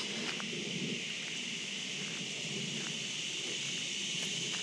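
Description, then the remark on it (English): Cicadas drone continuously in a steady, high-pitched buzz that never lets up, with a faint low rumble and scattered soft clicks underneath. No one speaks. “In the background, of course, you can hear the cicadas.”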